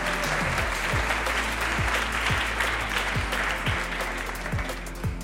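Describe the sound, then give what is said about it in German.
A large audience in Heidelberg claps loudly and continuously for several seconds, applauding themselves after a quiz, a dense wash of applause with a steady rhythmic low thumping running underneath, tapering slightly near the end. “Und Applaus für euch selbst.”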